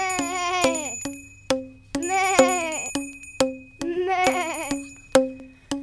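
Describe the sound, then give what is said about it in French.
A goat bleats three times, each call long and quavering, while a bell clanks at steady intervals between and over the bleats, with a low hum underneath. “Le loup marche devant, la chèvre le suit.”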